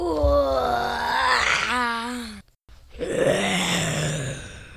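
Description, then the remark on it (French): A storyteller's voice imitates a lion caught in a net roaring as it struggles: a long, loud, wavering growl, a brief silence, then a second rougher, lower roar that slowly fades out. “Le lion rugit, se débattit, mais sans succès, malgré sa force.”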